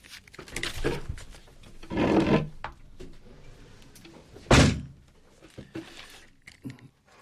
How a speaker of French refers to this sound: Alors je vais essayer de fermer la porte parce qu'on entend un bruit infernal dans le studio.